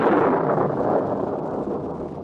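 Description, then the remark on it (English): A loud thunderclap booms and then rolls on as a broad, rumbling wash that slowly fades, with no voices over it. “Sounds pretty mysterious with that thunderclap right after its name like that, doesn't it?”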